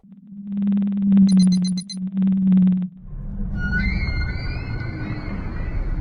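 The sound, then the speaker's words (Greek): An eerie cosmic sound from gravitational waves, recorded on a computer and converted into audible sound: a steady low droning tone with rapid pulsing buzz for about three seconds, then a hiss of rumbling noise with thin, wavering high whistles drifting over it. No one speaks. “Συμπαντικοί ήχοι που δεν είχαμε ανακαλύψει και που όμως μοιάζουν γνώριμοι.”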